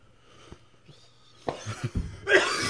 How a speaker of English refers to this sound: And the coughing subdues.